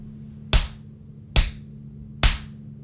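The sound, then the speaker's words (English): Three sharp, slow spanking slaps land at steady, deliberate intervals, each crisp, over a faint low hum with no voices. “I'll start my punishment by spanking you slow, slow and deliberate slaps.”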